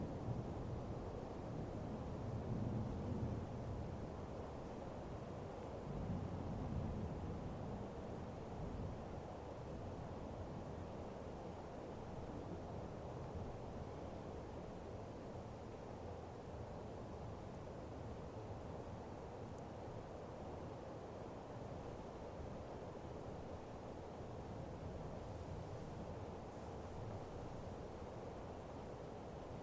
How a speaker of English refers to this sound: Taking in the sound of the thunder, like this temple's ritual drums.